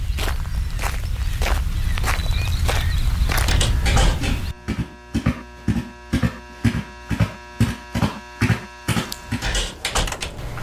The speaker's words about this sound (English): She climbs out of her car and walks quickly towards the lab area.